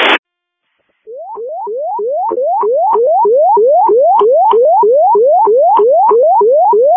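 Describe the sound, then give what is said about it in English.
Crystal Lake Fire dispatch paging tones over radio, sent for a sick-person call during CAD maintenance: a short burst of static, a pause, then a loud, steady run of rapidly repeating rising electronic chirps lasting several seconds, with no voices. “We weren't able to tone out via CAD. Were you guys able to copy tones?”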